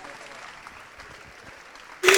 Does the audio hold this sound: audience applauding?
yes